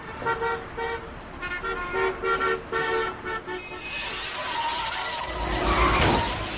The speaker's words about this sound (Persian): برادر من، شما زدی رو ترمز. من زدم رو ترمز، تو رانندگی بلدی؟ ببخشید وایسا آقا، ببخشید. من از عقب و جلو ماشینم خورده.